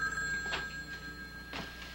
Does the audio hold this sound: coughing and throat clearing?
no